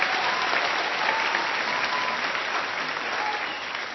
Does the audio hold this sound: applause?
yes